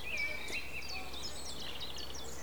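Several birds sing and chirp at once, a steady overlapping chorus of high, quick trills and tweets, fairly soft over a low background hum.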